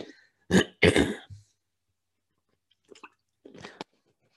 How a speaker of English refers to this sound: Excuse me, sorry. It's a little early. Gotta clear my throat. Okay, sorry about that.